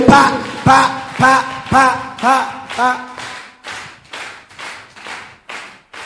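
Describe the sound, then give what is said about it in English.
A group gives a prophetic clap in a steady, even rhythm, about eleven loud claps in six seconds, with voices sounding over the first half before the clapping carries on alone and slightly softer. “The prophetic clap of”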